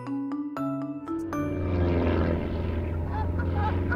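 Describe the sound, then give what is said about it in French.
A small propeller plane, flown to guide migrating birds along a new route, drones steadily and fairly loudly, its engine hum building after a few brief chime-like tones at the start, with possible bird calls mixed in. “les oiseaux préfèrent suivre un humain dans un petit avion plutôt qu'un des leurs”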